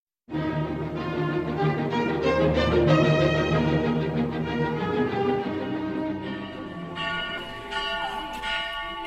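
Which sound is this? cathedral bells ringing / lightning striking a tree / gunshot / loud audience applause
cathedral bells ringing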